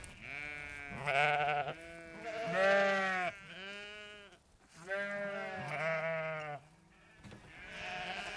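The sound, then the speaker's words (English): Sheep on a hillside bleat over and over, a run of wavering, nasal calls that overlap and follow one another closely, fairly loud, with brief gaps between bursts and no talking. “The sheep can be a little bit skittish, you know, when they're pregnant.”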